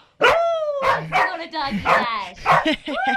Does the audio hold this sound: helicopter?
no